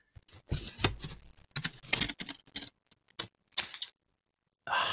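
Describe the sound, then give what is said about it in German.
Scissors snipping through paper lottery tickets held right up to the microphone, a run of crisp, irregular cuts with short pauses between them, ending in a brief papery rustle. No one speaks. “Ich halte die Schere mal so ein bisschen ans Mikro. Oh ja. Hört man das Schneidegeräusch?”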